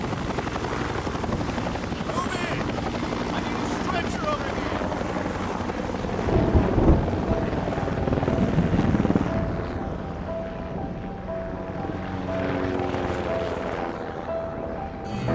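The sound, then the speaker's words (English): A medevac helicopter, carrying a severely injured survivor to Mata Hospital, drones steadily with a dense, pulsing rotor roar and whining engine tones, swelling louder for a few seconds midway before settling back into a constant hum. “We gotta get this guy on the bird. Need a medevac.”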